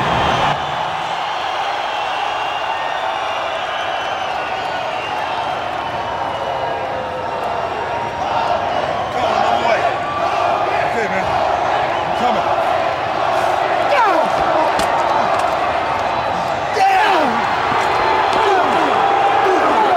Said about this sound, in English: Was hot for Hogan already, weren't they? Yeah, they're booing the shit out of the heels for stomping him.